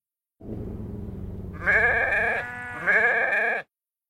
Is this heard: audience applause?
no